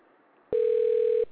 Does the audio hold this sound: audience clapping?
no